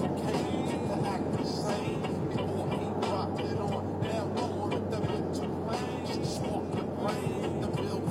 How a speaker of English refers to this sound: And, you know, I'm driving a car. Let's be honest. I'm driving a car.